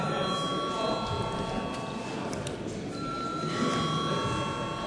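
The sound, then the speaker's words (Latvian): A parliament chamber's voting bell rings before a vote on granting urgency to a bill, continuously for the whole stretch: a steady, loud, high-pitched electric tone with a buzzing edge, over a low murmur of background noise. “Lūdzu zvanu.”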